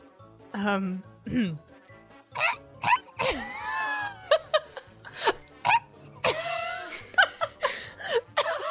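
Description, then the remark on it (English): A person imitates a pheasant call with a string of short, sharp vocal bursts and squawky, rising and falling cries, broken up by snickers and cough-like huffs. “Please, can you be a pheasant?”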